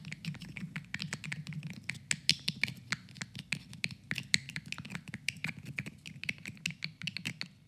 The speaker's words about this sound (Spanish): Pero, ¿y las ranitas? ¿Cómo haces las ranitas? Sí, claro. Con unas tapitas de botellas, de esas plásticas. Si las chocamos entre sí, suenan así. Escuchen.